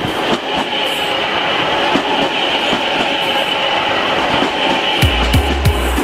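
A passenger train of the conurbano rumbles along steadily with a loud, continuous roar and faint rhythmic clicks from the wheels, ending with a few heavier low thumps. No one speaks.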